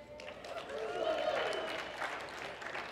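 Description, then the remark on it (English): Weak, scattered audience clapping that stays at a steady, moderate level for a few seconds, mixed with a murmur of crowd voices underneath. “That was a weak response, but the clapping part, but the hands up.”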